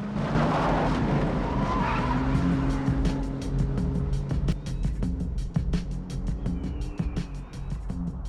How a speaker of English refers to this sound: Then turns the car around and drives off in a cloud of dust.